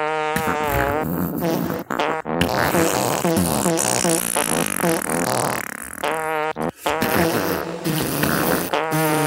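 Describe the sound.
A long run of loud, buzzy fart noises, rasping and wavering in pitch, nearly continuous for about nine seconds with only a couple of brief breaks; no talking.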